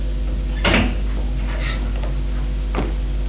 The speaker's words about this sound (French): Il ouvre la porte